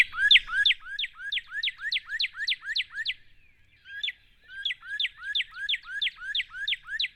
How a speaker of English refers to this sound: But the sound, I'm going to see if I can play the cardinal sound. It sounds a little like the cardinal to me.